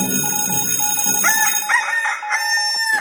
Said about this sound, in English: Good morning, early call time. Good morning, cock-a-doodle-doo.